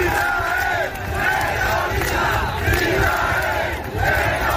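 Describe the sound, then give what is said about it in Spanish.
Hundreds of protesters chant "Israel terrorista" in loud, rhythmic unison at the finish line of a Vuelta cycling stage in Bilbao, Spain, protesting the Israeli team. Voices rise and fall in repeated phrases over a dense roar of shouting, with brief dips between chants. “Al grito de Israel terrorista, cientos de personas protestaban en la meta”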